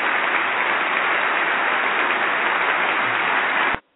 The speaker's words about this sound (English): You heard all the applause. The one remarkable thing here wasn't what the president said or the general reaction. It was Speaker Boehner's visual reaction. The general reaction to this part of the president's address was enthusiastic applause